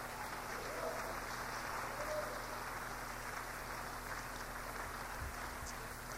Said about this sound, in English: Give God a hand clap.